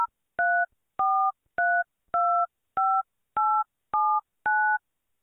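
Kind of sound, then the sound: signal or alarm, telephone dialing touch tones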